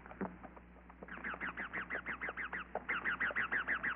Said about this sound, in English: First past the cane fields, then upward through a forest of bamboo and giant tree ferns. Overhead, wild parrots screeched.